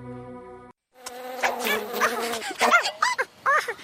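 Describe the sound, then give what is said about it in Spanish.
A close, loud insect buzz like a mosquito's drone, steady for a moment, then a brief gap before denser buzzing with shifting, wavering tones continues to the end. No one speaks. “Quiere protegerse de los mosquitos.”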